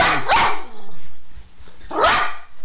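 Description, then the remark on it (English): Kate, a Jack Russell Terrier, lets out two sharp, high-pitched barks about a second and a half apart, loud and clear with no talking over them. “The mellifluous tones of Kate, the Jack Russell Terrier here.”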